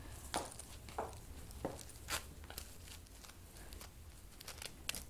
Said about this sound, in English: Can you zip me up real quick?